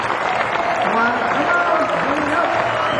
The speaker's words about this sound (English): As I introduce these gentlemen, would you please give them a nice welcome? Applause.